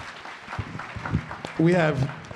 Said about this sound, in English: Can we give all of our panelists a round of applause?